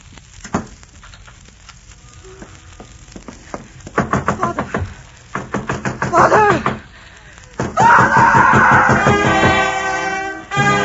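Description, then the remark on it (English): A door is locked: a run of sharp, uneven clicks and rattles like a key working in a lock, followed by a louder, sustained scraping rush. Nobody speaks. “I'm sorry, but I'll have to lock your door.”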